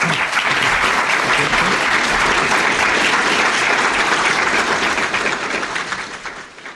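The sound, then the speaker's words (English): Sustained audience applause thanking authors Barry Brook and Ian Lowe at the end of a book event. A dense wash of many hands claps at steady loudness for about six seconds before tapering off near the end. “So once again, if you could thank Barry Brook and Ian Lowe.”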